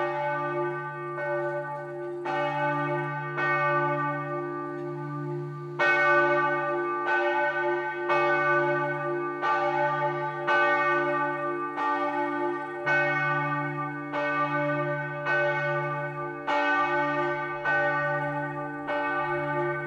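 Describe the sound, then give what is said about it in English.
A large single bell of a pilgrimage church on top of a hill rings steadily, each strike blooming into a long, humming resonance that overlaps the next. Clear, with roughly a dozen strokes at an even pace and no voices. “And so sitting there on top of this hill, very, very sort of noticeable from all around, when its bells ring, it carries from quite a distance.”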